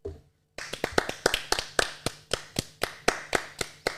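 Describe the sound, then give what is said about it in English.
Hands clap in a quick, steady rhythm, about fifteen sharp claps, fairly loud, starting after a brief quiet moment and continuing to the end with no talking. “Give him a clap.”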